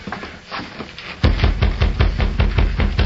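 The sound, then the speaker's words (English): Firm knocking on a ranch door by a marshal, about eight heavy raps in a quick, steady rhythm that starts abruptly after a quiet opening and continues to the end, with no voices. “He rapped on the door.”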